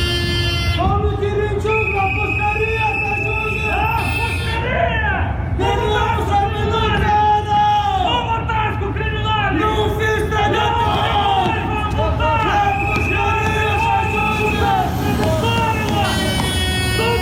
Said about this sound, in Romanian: Tocmai ați auzit strigătele ce se auzeau în preajma intrării din spate în clădirea Parlamentului în momentul în care deputații și miniștrii din noua garnitură veneau la ședință, fiind întâmpinați acolo de câteva grupuri răzlețe de protestatari.